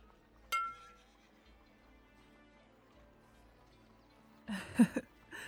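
A bright clink of glasses in a toast rings out once and lingers with a thin, fading tone, followed by quiet room sound and then a brief, louder clatter near the end.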